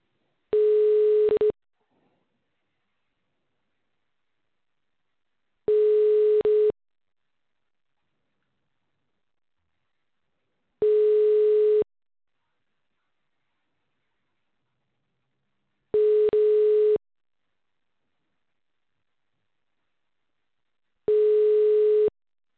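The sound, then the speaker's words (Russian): A telephone ringback tone sounds five times as an automated system redials a subscriber. Each is a steady mid-pitched beep lasting about a second and a half, separated by roughly four seconds of silence. No one speaks. “Начинаем звонить абоненту. Ожидайте соединения.”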